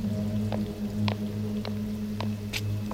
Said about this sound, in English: Jesus, it's pouring.